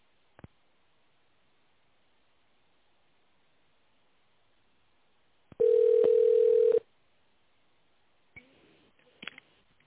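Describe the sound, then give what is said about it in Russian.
A telephone ringback tone while waiting on a call to the company Media Plus after its automated greeting: a single steady, mid-pitched beep lasting about a second on a quiet, thin-sounding phone line, with a few faint clicks before and after. “Пожалуйста, наберите внутренний номер абонента в тональном режиме или дождитесь ответа секретаря.”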